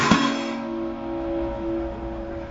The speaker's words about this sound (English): Pop, ring that bell.